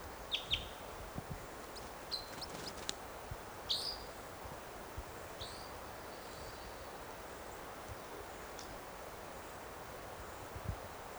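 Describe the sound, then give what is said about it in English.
Red crossbill chittering calls from one bird perched in a tree above a net site: a few short, sharp high-pitched chirps scattered over several seconds, some in quick clusters, above a steady background hiss of wind and rustling. “Is it chittering?”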